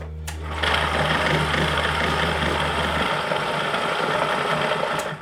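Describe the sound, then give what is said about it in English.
A Risograph stencil printer at Bernal Books in Normal Heights runs with a steady, fast mechanical whir and rapid clatter. A low hum underlies the first three seconds and then stops, with a sharp click at each end. “He's using a Rizzograph printer, an updated version of what was dropped off at Jan Dirk's”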